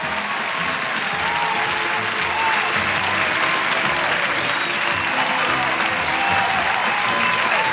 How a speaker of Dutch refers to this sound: Dat is natuurlijk dan wel een applaus waard, hè.